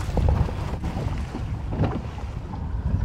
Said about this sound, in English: So it was about a 15-minute, very bumpy boat ride to the small key near the bridge where they'd scouted out some conchs.